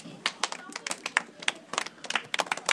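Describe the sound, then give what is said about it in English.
A small group claps for a few seconds for a girl who has just read out information about rainbows, a scattered, uneven patter of sharp hand claps at fairly even loudness, with faint murmuring voices underneath. “Give her a clap.”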